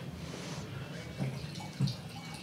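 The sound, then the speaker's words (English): Wine glugs and splashes as it is poured into a glass, a steady trickle with two brief louder gurgles partway through, no voices over it. The wine is a Vigna di Milo by the producer Salvo Fotis. “quickly tell me, first of all, pour yourself some more, and then quickly tell me what you brought in.”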